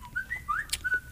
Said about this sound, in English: I was going to do you. A little whistle.